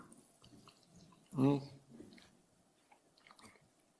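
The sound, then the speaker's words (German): Someone takes a sip of water from a glass, one brief gulping sound standing out against a quiet background with faint murmur. “Und jetzt kommt Wasser, das ist wunderbar, weil irgendwie habe ich gerade so eine trockene Kehle, danke.”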